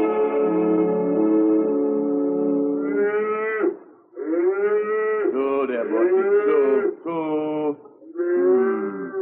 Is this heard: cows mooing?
yes